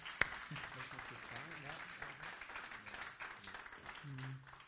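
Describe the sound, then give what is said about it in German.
A room full of people applauds steadily for several seconds, a dense, even patter of clapping, with voices audible underneath. “Erstmal ein Applaus hier”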